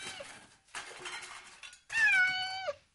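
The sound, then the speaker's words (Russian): A frightened kitten, cowering in a corner, meows in a few raspy, strained cries, ending in one longer, clear, wavering meow. No one speaks. “Не бойся нас, котеночек, иди сюда.”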